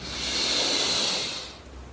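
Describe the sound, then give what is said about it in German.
A single long, deep inhale through the nose during a guided meditation, a steady airy rush that swells and holds for over a second before tapering off, with no talking. “Und ich lade dich jetzt ein, mit mir zusammen und der ganzen Gemeinschaft einen tiefen Atemzug zu holen.”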